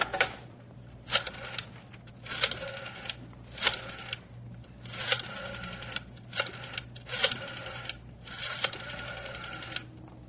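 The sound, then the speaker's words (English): A telephone being dialed: about eight short whirring, clicking bursts of a rotary dial, separated by brief pauses, over a faint steady hum, with no voices. “May I use the phone”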